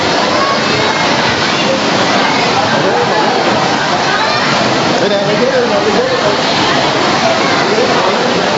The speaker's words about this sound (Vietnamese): Mấy lên có trời mưa, lẹ lên, mấy lên có trời mưa. Lẹ lên có trời mưa các anh em.